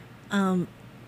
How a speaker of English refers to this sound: See, I'm clearing my throat. Stuff's trying to come out. It's trying to come out because we're clearing.